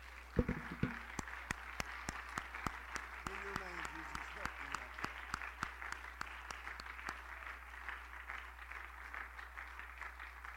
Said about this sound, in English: Could somebody stand and give a hand clap of praise to Jesus?